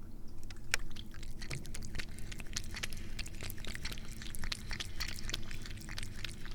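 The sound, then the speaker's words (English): A cat laps water in quick, irregular wet clicks and little splashy licks, fairly quiet, over a steady low hum with no talking. “Those are the sounds of my cat. Finally drinking the water.”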